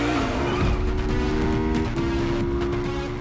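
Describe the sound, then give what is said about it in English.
Roaring motorcycle engines and a high, whining tire squeal in a fast highway motorcycle chase ridden by a stuntwoman, loud throughout, with a steady rumble underneath and no voices. “She's got this amazing highway motorcycle chase in Matrix Reloaded.”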